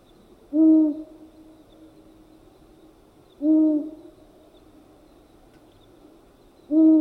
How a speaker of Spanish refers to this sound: El búho chico tiene una de las voces más lúgubres de las aves, parecida al sonido que se obtiene al soplar sobre el cuello de una botella vacía.